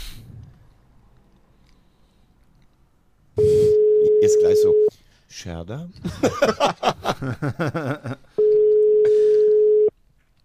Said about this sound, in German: wir probieren jetzt einfach mal bei Simon Scherder anzurufen